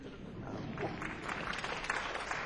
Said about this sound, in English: I'll tell her you applauded.